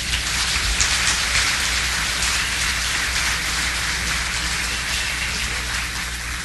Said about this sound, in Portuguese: Estes são os nossos patrocinadores, a quem pedimos um grande aplauso.